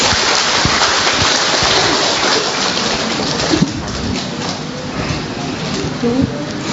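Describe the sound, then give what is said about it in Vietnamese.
A church audience applauds to welcome a family invited up to share their blessings, in a dense, steady wash of clapping that holds at an even loudness for several seconds, thick with overlapping crisp hand claps. “Chúng ta một tràng pháo tay để chào mừng gia đình này.”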